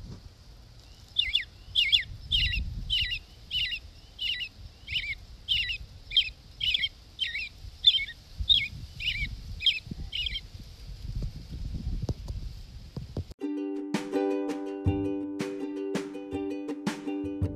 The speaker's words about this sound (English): American robin, Turdus migratorius. This will be one of the first birds to sing in the morning and often one of the last of the day as well.